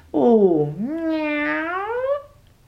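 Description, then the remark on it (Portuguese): A single long, drawn-out meow that dips low and then rises, loud and close, sounding like a person imitating a cat, with nothing else around it. “O gato.”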